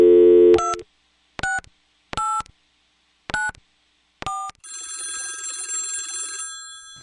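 A telephone call sound effect: a short low tone, four evenly spaced keypad beeps, then a steady electronic ringing that runs for about two seconds. No one speaks.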